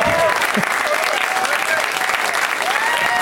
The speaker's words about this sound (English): Finally, after all these years, I got some applause.